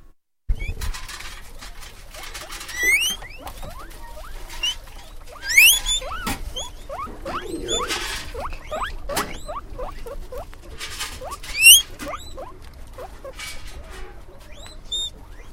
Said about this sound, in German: Aber im alten Schweinestall hat es etwas ganz Besonderes. Dort wohnen Manuel, Jackson und Püppli mit vielen Artgenossen. Es sind Meerschweinchen, ungefähr 200. Und so tönen sie.